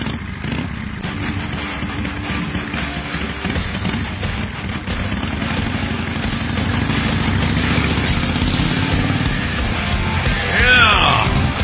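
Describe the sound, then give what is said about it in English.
A motorcycle engine idles with a steady, low rumbling throb, fairly loud, then revs briefly near the end, recorded on a ride. No one speaks. “Yeah, motorcycle.”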